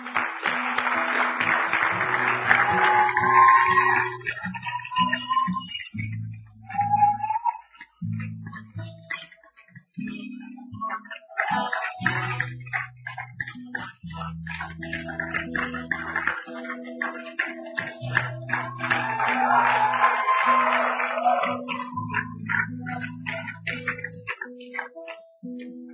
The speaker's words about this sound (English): We're clapping hands not because we want to show anything, but we're so excited because we remember the day we made the decision you're making now.